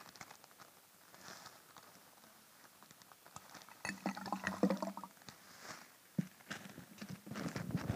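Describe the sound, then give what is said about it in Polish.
After a few quiet seconds, lumps of hard clay drop into water with soft plops and small splashes, followed by scattered knocks and handling noises. No one speaks. “Również sobie wrzucimy troszkę tej gliny do wody.”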